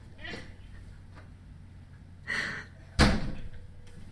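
A window is pushed along with a short scraping rumble, then slammed shut with a single sharp, loud bang, followed by quiet background noise.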